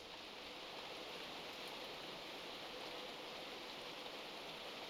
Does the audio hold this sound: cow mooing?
no